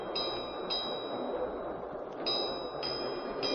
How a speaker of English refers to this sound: What's that? Ship's bells, ma'am. I just signaled the engine room.